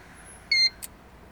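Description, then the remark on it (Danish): An electronic toll tag in a car gives one short, steady, high-pitched beep at the Storebælt toll plaza, followed a moment later by a brief soft click, with no talking and only faint background hiss. “Og de har endda lavet den en lille smule om. En gang, så bippede den sindssygt højt.”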